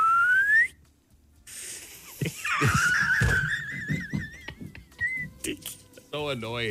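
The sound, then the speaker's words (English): A person tries to whistle by sucking air in: breathy, wavering whistling drawn in on the breath, a few thin sliding pitches that wobble up and down, with scraps of voices and rustling around it. “Try it sucking in.”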